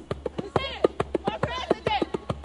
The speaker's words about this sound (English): A few blocks away from Dean headquarters, a red-cheeked cluster of fervent Denis Kucinich supporters stomp their feet against the cold and dance to the drums as darkness falls Saturday night.